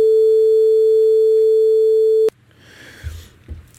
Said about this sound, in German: Sinuswelle, ganz einfach, die einfachste Wellenform, die es gibt. Wir können auf der auch, oder mit dieser Welle auch alle anderen Wellen produzieren.